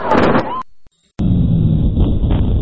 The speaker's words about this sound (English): Now you can clearly discern 3 sounds there, a blast and a double echo. Now, our analysis shows the spacing of those blasts is much, much closer than the blasts and echoes from the fuel air explosion later.